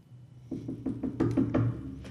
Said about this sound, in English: And at the top of the flight of stairs, at the very top of the tower, there's a door, and Rora knocks on it.